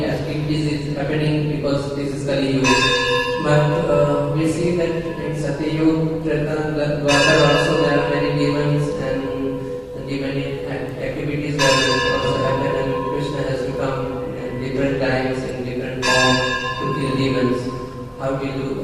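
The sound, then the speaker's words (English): A bell rings repeatedly in loud, bright strikes every second or two, each clang ringing out over a steady, droning background with what sounds like voices mixed in. “Because of the bell, I couldn't hear a word that you said.”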